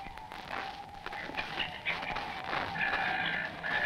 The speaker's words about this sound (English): Listen to those seagulls. They feel the bad weather coming.